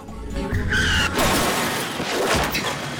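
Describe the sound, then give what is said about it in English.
A car engine roars and brakes squeal briefly before a loud, harsh crash as the car hits a pedestrian walking towards a hospital, followed by about two seconds of broad, rumbling clatter. No one speaks. “A car's coming up behind him. As he watches Serena walking briskly up to the main entrance, the car careers into him.”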